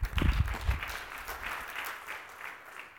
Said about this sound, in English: Oh, my friends, we ought to give the Lord a hand clap of praise for teaching us something.